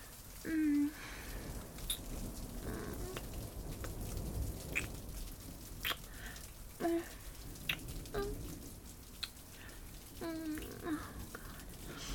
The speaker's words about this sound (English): Oh, I'm sorry, my hair is so wet. It's raining so much outside.